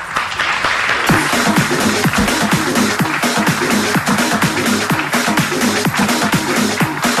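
A crowd in Viladecans applauds steadily for the people who built up the town's businesses, dense clapping at a strong, even level for several seconds without a break, no voices standing out above it.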